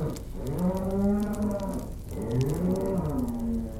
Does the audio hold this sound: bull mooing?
yes